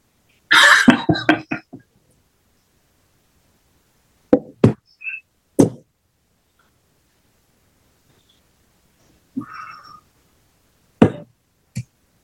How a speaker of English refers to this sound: Sorry. Okay. Sorry, everyone. That was my dog.